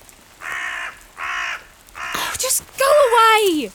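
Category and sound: bird, crow cawing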